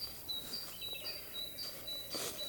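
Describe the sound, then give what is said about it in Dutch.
A great tit sings a repeated two-note phrase, high and thin, alternating pitches in a steady rhythm several times over, against a soft outdoor background in sunshine with no talking. “Vogels zijn sowieso lijp, want als je goed luistert nu, hoor je een koolmees.”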